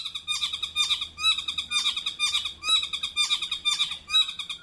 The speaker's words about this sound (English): the interesting thing about that Motuora call is that that's what might be considered a fairly typical male saddleback call